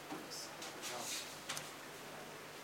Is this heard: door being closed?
yes